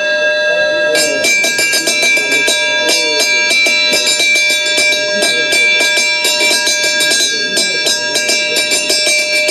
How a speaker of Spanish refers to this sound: Hoy en los pueblos las campanas repican y tocan a fiesta, como en esta escuela de campaneros